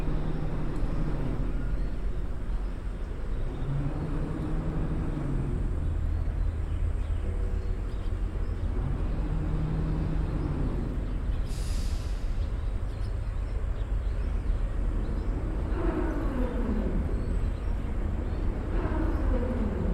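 Large tourist boat engines on the Li River drone steadily and unbroken through the Xinping valley, a deep low rumble with wavering humming tones layered on top and a brief hiss partway through.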